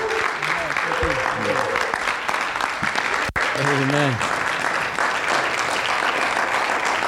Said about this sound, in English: Let's give our associate pastor a hand clap of praise as he brings forth the word of God this evening.